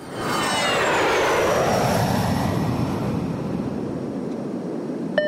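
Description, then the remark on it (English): Steady, loud roar of airplane cabin engine noise in flight, with a high whine gliding slowly downward at first and a short bright chime right at the end. “But it's funny that this is in an article, actually, because I was on a plane last week and I managed to record my pilot.”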